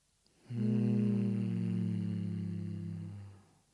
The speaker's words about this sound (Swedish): Tar ett djupt andetag. Alltså det är ju att man ska andas lugnt för det första. Men för att reglera nervsystemet så ska man tydligen då göra så här. Mm. Så. Humma ut andningen.